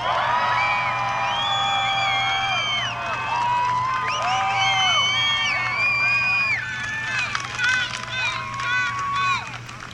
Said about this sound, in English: Isn't she amazing? Give her another round of applause.